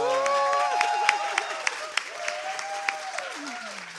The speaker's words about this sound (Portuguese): Uma salva de palmas